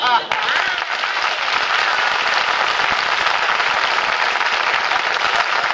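An audience applauds steadily for about six seconds, a dense, even crackle of many hands clapping at once, loud and unbroken with no voices standing out.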